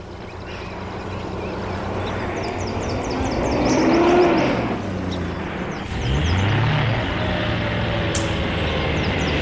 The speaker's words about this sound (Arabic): ما هذه الأصوات؟ ها إنها سيارة الصيادين، يجب أن نهرب.